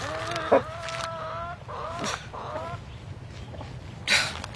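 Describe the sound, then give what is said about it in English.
Chickens cluck and chatter steadily in a hen house, several birds overlapping with short harmonic calls and a couple of sharper squawks, with no one speaking. “Hen house”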